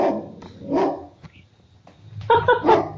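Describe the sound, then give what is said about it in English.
A large protective dog barks at someone walking on the street: a single loud woof, a pause, then a quick cluster of harmonic barks near the end, with faint low rumbling in between. “my big protective dog.”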